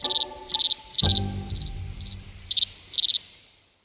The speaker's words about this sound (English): It produces a sound around 99 decibels. That's about as loud as a blender full of ice cubes. And the males make this sound, 99 decibels, by rubbing its genitals against its abdomen.